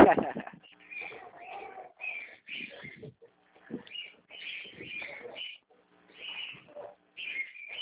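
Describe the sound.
A small bird sings a run of bright, repeated chirping phrases with short pauses between them, while muffled voices murmur faintly underneath.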